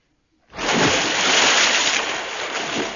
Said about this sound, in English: Missed. Worse still, if little Jim had been here, he could have said... It's fallen in the water. He could have said that.